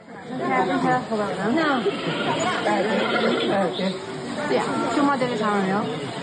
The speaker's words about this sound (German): Das sind Besucher- und Panda-Geräusche in der Panda-Aufzuchtstation in Chengdu. Die Laute der Pandas liegen irgendwo zwischen Quieken, Zwitschern und Krächzen.